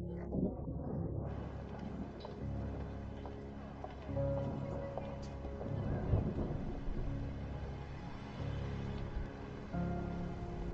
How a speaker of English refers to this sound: You look at the sky and see large clouds full of water about to fall. The sounds of thunder and lightning begin to appear.